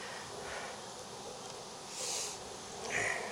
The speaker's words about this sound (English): I got a bee in my sleeve.